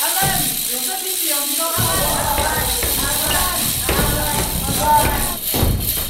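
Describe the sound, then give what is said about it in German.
Purim rattles whirr in a loud, dense, buzzing clatter that never lets up, punctuated by dull thumps of stamping feet, with a crowd of voices mixed underneath, at the Jewish festival of Purim, as everyone rattles and stamps whenever Haman's name is said. “Sobald Hamans Name fällt, klappern alle mit lauten Rasseln und stampfen auf den Boden.”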